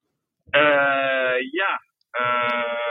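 A buzzy, harmonic phone ringing tone sounds in two steady bursts, the first with a brief dip in the middle, separated by a short silence.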